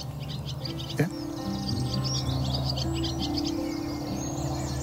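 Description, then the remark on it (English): Quick, high twittering chirps from swallows on a mid-morning in April flutter in and out over a steady low hum, with one sharp click near the start; no one speaks. “I hear the little twitter there.”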